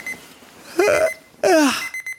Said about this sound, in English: Alarm off.